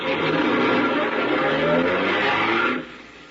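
A car engine roars steadily, a dense rumbling drone that holds for nearly three seconds before abruptly dropping away, as if the vehicle pulls off.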